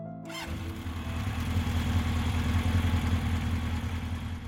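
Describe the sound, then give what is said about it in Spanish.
A small motorcycle engine, started by a man's brother-in-law, cranks briefly and catches, then settles into a steady, loud idle with a low, sputtering rumble that continues without speech. “Mi cuñado arrancó su motocicleta”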